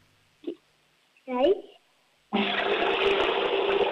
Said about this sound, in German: Na holla, die Waldfee. Die Oma hat eine laute Klospülung.